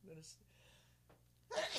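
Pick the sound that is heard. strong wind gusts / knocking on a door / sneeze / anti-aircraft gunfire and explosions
sneeze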